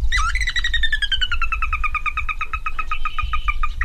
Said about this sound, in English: A rarely seen marsh bird called a sora has captured the attention of some of the site's staff. One pulls out her phone to mimic the bird's call.